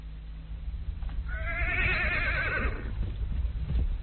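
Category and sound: animal, horse neighing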